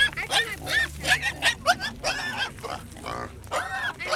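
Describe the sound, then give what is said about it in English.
A pig about to be ritually killed by Melanesian people at a West Papuan gathering grunts and squeals in a rapid series of short, harsh bursts, fairly loud, with brief gaps between calls and a low rumble underneath. “Perhaps the pig did too.”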